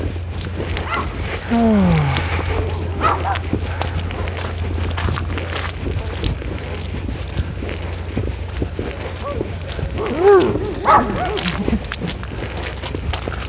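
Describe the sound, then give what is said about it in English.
A dog, excited by things coming past, gives excited, whiny vocalizations in two bursts, a rising yelp early on and more whimpering barks near the end, over a steady low engine-like hum with no clear speech. “I think that dog's just really old and beware of the dog.”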